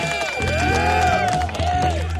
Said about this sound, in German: Ich hab Buhrufe gehört. Ja, das ist auch schon ein Jingle übrigens. Haben wir auch schon seit ein paar Jahren.